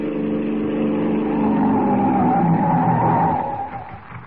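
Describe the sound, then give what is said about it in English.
A police car's engine draws near at a crossroads in the darkness, then its tires screech loudly as it skids to a sudden halt, the squeal fading out at the end with no voices. “They crouch in the darkness as the car approaches.”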